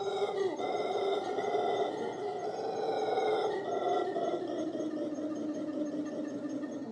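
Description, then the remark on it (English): A person imitates a howler monkey's scream: one loud, sustained, rough wailing cry with a droning, siren-like tone that holds steady for about seven seconds, with slight wavering in pitch. “They scream all the time, super loud.”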